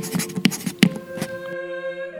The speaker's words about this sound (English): The baker rips off a little piece of paper and speaks out loud while writing.